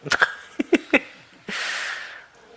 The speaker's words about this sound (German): Ach so, ja, sie muss aufpassen, dass hier nichts schief geht, die kleine Hündin.